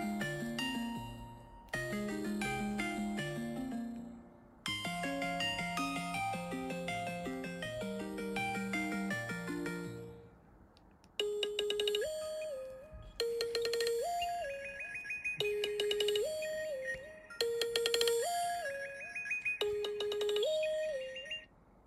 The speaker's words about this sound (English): Now, Apple has been known to have some very well-heard ringtones, so we're going to play some of the new ones.